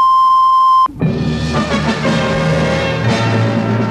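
A single steady, loud electronic tone at a mid-high pitch holds for just under a second, a radio time signal marking 5 o'clock on WJBK AM and FM, Detroit, Michigan, then cuts off abruptly into a dense, busy wash of broadcast sound.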